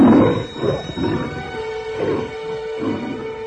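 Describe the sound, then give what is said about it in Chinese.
Deep, rumbling roars and growls of hungry lions in a lions' den overlap in loud surges as people are thrown into the pit, swelling roughly every second over a continuous low snarling bed, with no voices present. “那群被扔下狮子坑的人还没落到坑底，就被饥饿的狮子给撕碎了。”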